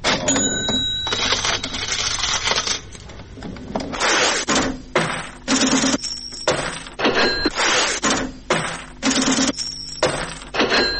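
A steady run of bright metallic clinks and jingles, like coins being dropped and counted, repeating about a dozen times in quick succession, loud and close with no voices.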